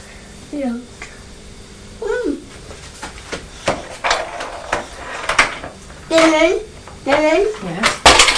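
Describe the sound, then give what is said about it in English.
Small toy trucks are tipped into a high chair, clattering and knocking against it in a series of sharp, irregular clunks, while a young child babbles and squeals between them. “Are you tipping your trucks into your high chair?”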